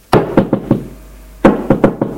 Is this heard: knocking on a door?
yes